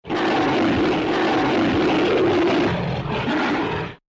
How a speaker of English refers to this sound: So, it's the abominable snow monster, also known as the Bumble, from the old Rudolph the Red-Nosed Reindeer claymation movie. One of the vocalizations from the abominable snow monster is also one of the classic sound effects from King Kong's roar.